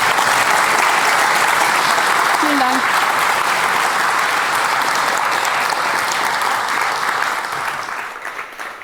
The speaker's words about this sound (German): Applaus nochmal für alle.